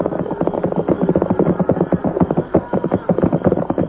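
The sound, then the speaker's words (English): A large herd of cattle, roughly 1,000 head, on the move: a dense, continuous rumble of many overlapping hoofbeats, thudding unevenly and staying loud and steady throughout. “Cattle, huh? It sounds like 1,000 head.”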